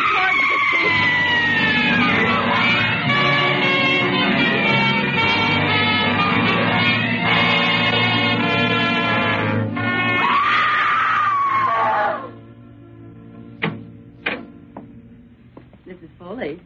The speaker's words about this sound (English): And then she went screaming out the front door.